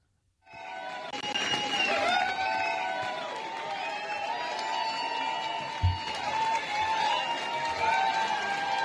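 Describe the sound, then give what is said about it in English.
A large crowd at a political rally for Susan Crawford cheers and shouts in a steady, dense roar that begins abruptly and holds for several seconds, with high whoops rising above the din and a brief low thump partway through. “I do want to at least play the crowd.”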